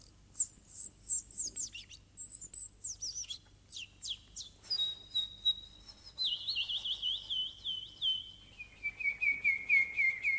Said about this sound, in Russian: Какая птичка? Золотистая, с хохолком, а спинка и брюшко голубые. А хвост-то, хвост алый весь, как огонь горит. Никогда я не встречал в наших местах таких птиц.